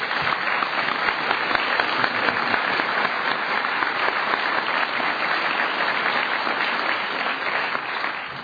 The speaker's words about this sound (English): and I just want to give you a round of applause if that's appropriate.